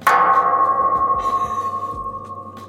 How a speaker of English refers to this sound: That's what it sounds like when a golf ball hits the border fence.